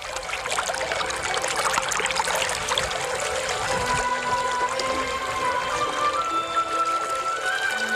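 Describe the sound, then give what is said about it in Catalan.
The Segre River flows steadily with a constant rushing, bubbling texture, fairly loud throughout, with faint tonal whines drifting in near the end. “l'aigua que du en el seu cabal s'ha convertit en el millor aliat del rei Carles”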